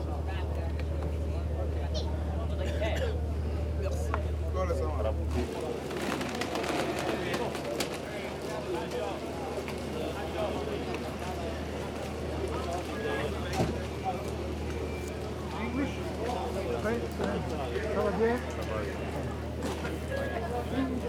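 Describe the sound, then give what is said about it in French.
A boat's engine drones low and steady, then cuts away to a busy, echoing ambience of clatter, shuffling movement and indistinct voices as people step off the vessel. “Là, on sort du bateau.”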